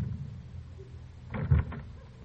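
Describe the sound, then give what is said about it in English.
A door is handled as someone leaves through it: a short cluster of scraping, rattling sounds ends in a solid low thump as it shuts, over a steady low rumble with no voices. “As for me, I'm leaving his program when I go through this door.”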